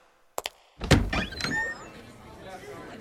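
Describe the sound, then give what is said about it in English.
A door at the Kodak Theater opens: two quick latch clicks, then a solid thunk and a short creaky squeal as it swings, settling into a low background murmur. “Oh, I think it's this door.”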